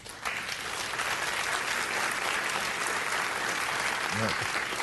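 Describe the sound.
Steady audience applause fills the whole stretch, a dense wash of many hands clapping at an even level, with a brief voice-like murmur rising near the end.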